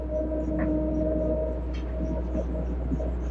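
A steady, heavy rumble of a train running, with a constant low drone and a faint tonal whine holding throughout, plus a few light clanks. No one speaks.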